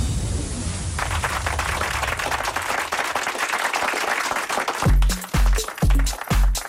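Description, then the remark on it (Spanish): A dense burst of many hands clapping, crackly and steady for several seconds, then giving way to heavy, rhythmic bass thumps as an electronic music track kicks in, played on the electronic music station Loca FM to open the show's third and final block. “Mira qué maravilla que nos aplauden por aquí la entrada en este tercer y último bloque del programa de hoy.”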